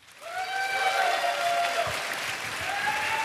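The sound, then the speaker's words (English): An audience claps steadily and loudly for about three seconds, a dense, even wash of hand claps with a drawn-out, high tonal whoop rising over it near the start and end. “Everyone keep clapping.”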